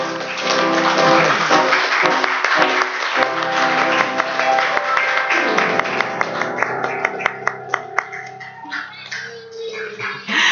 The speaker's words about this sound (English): And now, could we have everybody in the congregation stand up and give the children a big round of applause?